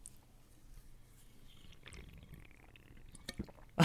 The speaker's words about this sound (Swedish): Ja, det där är ju faktiskt ett monsterljud alltså. Eller hur? Lite. Ja, ja. Det är en stor burk, hör man. Mm, man kanske hör det där burkljudet. Det här, ja. Ja. Ja, men det är något med akustiken på slurpet också.